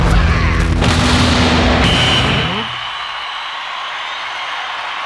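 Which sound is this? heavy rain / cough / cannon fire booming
cannon fire booming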